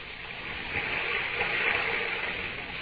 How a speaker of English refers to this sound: When I press my ear against the wall, I can hear the water running like it was a river under the ground.